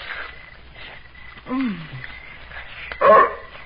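A big mutt dog gives a short, sliding yelp and then, a moment later, one sharp bark, both loud against a low, steady background hiss.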